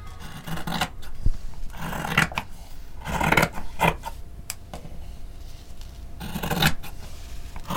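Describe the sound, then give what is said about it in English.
Scissors slice through fabric in a series of raspy cuts, each a brief crisp swish with short pauses between. No one speaks. “Like the sound and the feel of scissors just slicing through fabric is kind of like zen.”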